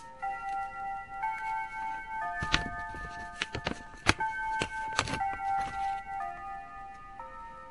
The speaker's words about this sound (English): Hold on, let's wait for this clock to go through.